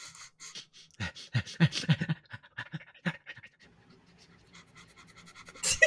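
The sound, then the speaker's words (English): A rapid series of short, breathy sniffs in an uneven rhythm, some sharper than others, ending with a louder hissing breath, as someone sniffs the air checking for a sulfur smell. No one speaks. “Do we smell sulfur? Do a sniff roll.”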